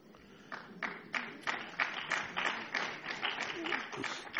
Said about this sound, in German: Abgesehen, es klatschen auch einige Männer, nicht nur Damen, und das ist gut so.